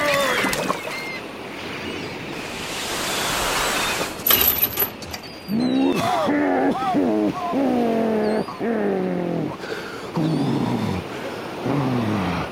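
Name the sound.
sea waves and surf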